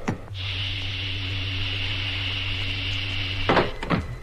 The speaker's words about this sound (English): Filling airlock. Now opening cabin hatch.